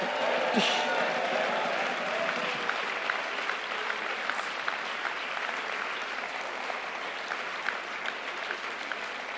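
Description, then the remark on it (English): A large crowd applauds steadily for the full stretch, dense clapping at an even, strong level, with indistinct cheering voices blended into the noise. “Come on, give them a big northern cheer, southern cheer.”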